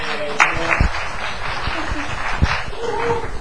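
An audience at a church service at Amazing Grace applauds, a steady, dense crackle of many hands clapping together for a few seconds, with a few sharper individual claps standing out from the wash.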